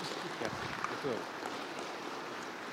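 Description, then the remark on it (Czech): Steady, dense clapping from a conference audience, given as thanks to the organizers, sustained at an even level throughout, with a few faint voices briefly audible beneath it. “A já mu chci poděkovat za přízeň té konferenci a dovolili jsme se mu tady nějakou malou upomínku i vyrobit, takže já to předám a poprosím vás o potlesk a poděkování za nás, za organizaci.”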